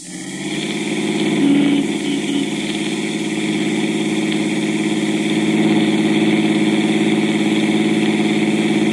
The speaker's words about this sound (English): Well, that's an automobile. An automobile, so? A car,